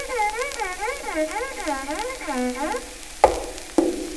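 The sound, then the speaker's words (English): A broken one-string fiddle is bowed in rough back-and-forth strokes imitating Pa sawing wood at the woodpile, its reedy tone swooping up and down repeatedly for nearly three seconds, followed by two sharp knocks. “Hey, sis, here's the kind of music Pa makes at the woodpile. Saw wood pile.”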